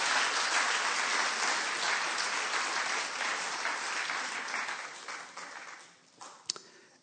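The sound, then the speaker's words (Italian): An audience at a sermon claps together in sustained, dense applause for Jesus, then gradually fades over the last couple of seconds, with a few final scattered claps. “Un applauso a Gesù, per favore.”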